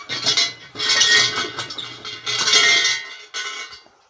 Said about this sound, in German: Also jetzt bin ich genau hier vor einem kleinen Schrein und mach mal der Schreingott, der Kami schläft zwar schon, aber ich rüttel trotzdem mal hier an der Glocke.